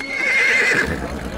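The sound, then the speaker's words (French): A horse whinnies loudly during a park show where musketeers ride on horseback: one sustained high, wavering neigh that trails off, with faint background noise and no voices. “Des hommes sont à cheval, des femmes dansent.”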